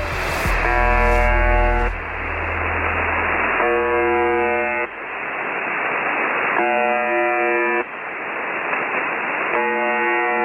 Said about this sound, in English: This is a recording of a shortwave radio station that's commonly known as the Buzzer